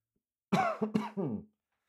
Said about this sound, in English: Sorry for coughing in your ear. But that cold weather, just ran out to get some stuff out of my truck. And every time I go out to the cold weather, I come back in with this like shallow cough. I don't know what the hell that is.